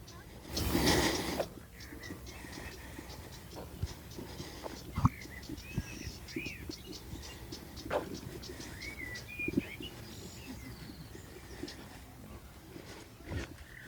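bird, birds singing outdoors

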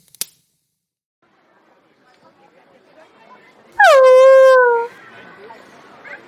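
animal, dog whimpering

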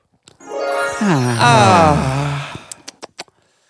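human body sound, heavy breathing

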